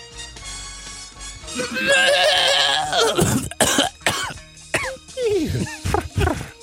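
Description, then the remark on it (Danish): A loud, strained vocal rasp gives way to a string of harsh coughs right up close to the microphone, coming in rough, uneven bursts. “Du hostede direkte ind i mikrofonen.”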